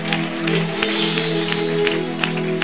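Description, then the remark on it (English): An audience claps for Jesus after a woman's migraine is said to have cleared during prayer, a steady, dense wash of applause with sustained instrumental tones humming underneath throughout. “Clap for Jesus. Clap for Jesus.”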